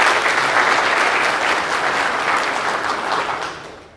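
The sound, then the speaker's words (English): An audience at a worship service at Good Shepherd Savannah breaks into sustained applause, dense and steady clapping from many hands, then gradually fading toward the end. “But now y'all isn't the time to clap.”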